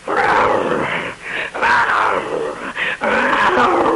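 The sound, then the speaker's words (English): A person's voice mimics a growling Rottweiler dog, producing rough, snarling vocal bursts in several loud phrases separated by short breaths, with no actual words spoken. “His mama was a Rottweiler, and his daddy was from a bad neighborhood.”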